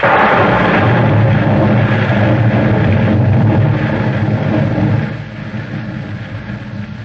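Loud thunder from a worsening rainstorm rolls in a long, deep, continuous rumble with a hissing wash over it, easing a little in the last couple of seconds. No one speaks.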